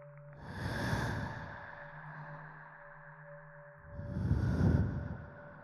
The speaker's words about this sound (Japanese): 息を吹きかけるたびにビクビクしてますよね。